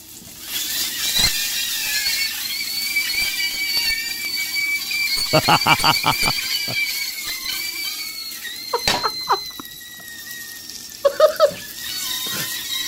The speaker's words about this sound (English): And as you fry it, it escapes out the casing. And sometimes it sounds like people screaming. So these are okay. I'm in. I'm in on this. These are videos of frying sausages that sound like people screaming. And apparently, yes, this is a thing.